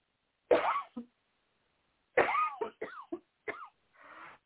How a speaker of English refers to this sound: Cough again.